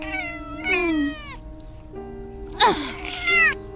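A cat named Miwi meows several times in a row, long drawn-out wavering cries with a couple of sharper, louder calls near the end, clear over a faint background hum.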